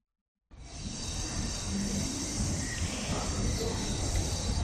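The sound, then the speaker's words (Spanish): The quiet, fully pedestrian Calle Compostela in A Coruña on the morning of Car-Free Day, 22 September, with no cars passing, just a steady, soft outdoor hum and faint murmur that starts abruptly and continues evenly throughout. “Esto con coches y así sin coches.”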